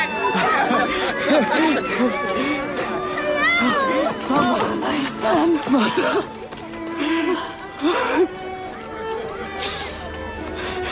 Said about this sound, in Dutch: Ze zijn zo blij. Welkom terug, hoor je de mensen roepen.